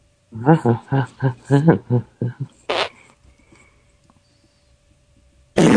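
A rapid run of short, buzzy fart sound effects with wavering pitch, followed by a raspier blast, a quiet pause, and another loud burst cut off at the end.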